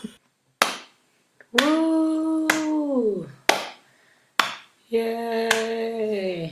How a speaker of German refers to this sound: Jetzt möchte ich bitte einen Applaus